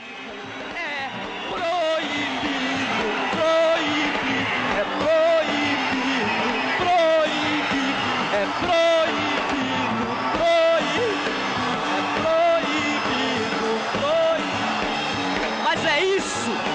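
A large theater audience boos and jeers loudly without pause, a dense roar of voices with individual shouts and whoops breaking out every second or two.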